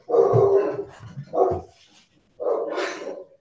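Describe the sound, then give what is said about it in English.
Two dogs, one big and one small, barking at the mail carrier after the doorbell rings, in three loud bursts separated by brief pauses, the last bark sharper and higher-pitched than the deeper ones before it. No one speaks. “We have a big and a small dog. So anyway, there's my ring and it's the mail person.”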